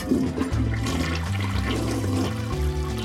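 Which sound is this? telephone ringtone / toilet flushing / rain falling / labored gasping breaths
toilet flushing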